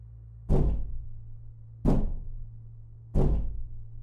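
Three heavy, booming strikes land on a solid wooden front door at a slow, steady pace, each one loud with a short resonant decay, over a low background hum.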